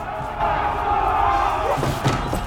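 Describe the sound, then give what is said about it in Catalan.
A loud crowd shouts and roars in uproar in the street, a dense wall of overlapping voices with a few sharp thuds near the end. “Al carrer, Lucas gira amb sorpresa cap a la cridòria.”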